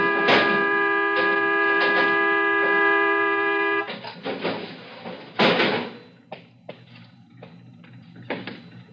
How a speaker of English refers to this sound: But that night it stuck right on the corner of Brookside and Sierra Madre. Stop blowing your horn! I'm sorry, Mr. Bruce, I'm not blowing my horn. It's gotten stuck.